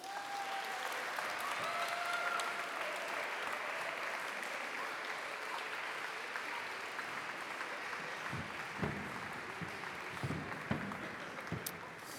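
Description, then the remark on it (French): Sustained audience applause, a dense steady clatter of many hands clapping at even loudness throughout, with a few louder individual claps and faint crowd murmur toward the end, as the choir Aquarium takes its place at the start of an evening show. “Voilà, je ne vais pas me présenter, mais je vais demander à la chorale Aquarium déjà de s'installer tranquillement sous vos applaudissements.”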